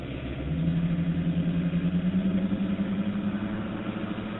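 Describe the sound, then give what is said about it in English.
A boat's steady, low engine drone, recorded underwater by a hydrophone, with a rising tonal hum and rhythmic pulsing, muffled, continuing throughout with no voices. “Now listen to the kind of noise a boat makes.”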